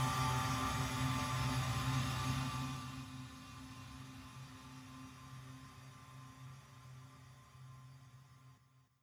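An experimental drone music recording: a dense, sustained drone of layered tones and hiss with steady low hums, loud at first, then thinning and fading gradually before cutting off at the end. No voices.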